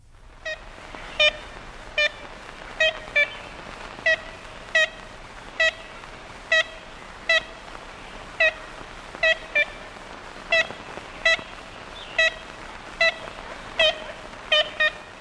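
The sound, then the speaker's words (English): Ivory-billed woodpecker calls from a 1935 recording: a long series of short, nasal, high-pitched toots like a toy horn, repeated at uneven intervals about once a second over a steady background hiss. “And, you know, I thought it'd be a fun way to conclude this with listening to the call of the ivory bill.”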